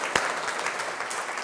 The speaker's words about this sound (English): Well done, give yourselves a big round of applause.